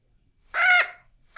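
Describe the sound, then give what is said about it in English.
A single loud, harmonic bird-of-paradise call rises abruptly and holds for about a third of a second before trailing off, followed by the start of another call right at the end. “It's a bird of paradise.”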